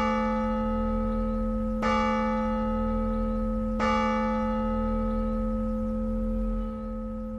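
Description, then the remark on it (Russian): A neighbouring tower clock strikes three o'clock, three strokes, each a deep, resonant bell tone spaced about two seconds apart, its rich humming overtones ringing on and slowly fading. No one speaks. “Джордж прислушался и башенные часы по соседству не заставили себя ждать.”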